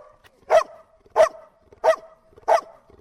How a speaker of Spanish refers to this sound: El ladrido de Shina marca a un superviviente.